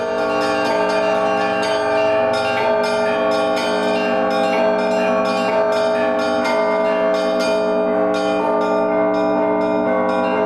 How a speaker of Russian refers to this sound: колокольный звон – это, собственно, часть богослужения, и его называют молитвой в бронзе. И это та проповедь, единственная проповедь, которая выходит за пределы храма.